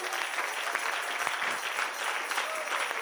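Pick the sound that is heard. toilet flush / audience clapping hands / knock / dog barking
audience clapping hands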